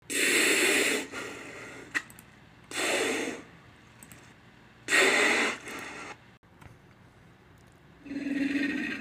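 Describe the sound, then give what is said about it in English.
An alligator's low, guttural, throaty vocalization: four breathy, rasping bursts, each lasting about a second, with short pauses between them, close and fairly loud with no talking. “That's an alligator. It's a very low frequency, so it's guttural. It's kind of throaty.”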